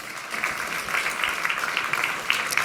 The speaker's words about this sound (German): Einen kleinen Applaus. Deine Bühne.